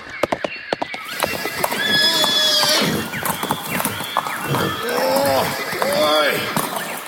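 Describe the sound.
Horses whinny loudly over a steady clatter of hooves on hard ground as two new young horses try and fail to move a stuck wagon, the neighs rising and falling in bright, wavering bursts amid brief muffled voices.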